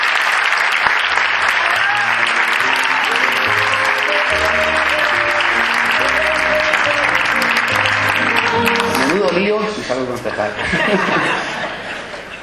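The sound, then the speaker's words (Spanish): A crowd claps loudly and steadily for about ten seconds over upbeat background music, with a few chuckles mixed in, before the applause thins out and fades toward the end. The applause is for a candidate for urban planning councillor in Totana. “Un fuerte aplauso.”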